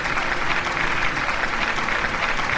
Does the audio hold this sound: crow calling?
no